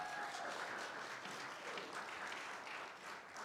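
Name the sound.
audience clapping and cheering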